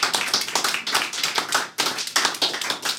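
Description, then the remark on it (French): A crowd applauds steadily for about three seconds, a dense wash of many hands clapping with a brief dip midway before swelling again. No voices are heard. “On peut l'applaudir.”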